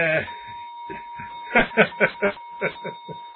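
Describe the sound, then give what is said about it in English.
A clock chimes in a quick, evenly spaced series of about seven bright strikes over a faint steady tone, after a few softer, scattered strokes at the start. “the clock is going again.”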